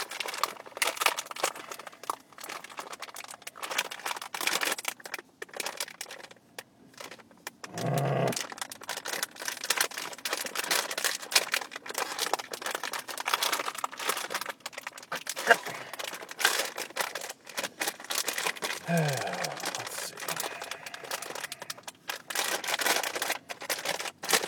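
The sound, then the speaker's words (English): Crinkly plastic trail mix bag being wrestled with and torn open at its tear-here crease in a car, a dense stream of sharp crackling and rustling that runs almost nonstop, with brief pauses and a few louder rips. “I still can't open it. I tore it where it said to tear it.”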